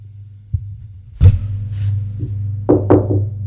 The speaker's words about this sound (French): On a frappé à la porte.